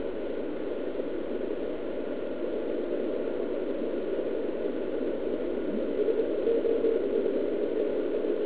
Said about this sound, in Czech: Třeba toto typicky slabý signál. S APF-kem nastaveným na 700 Hz už se to stává čitelným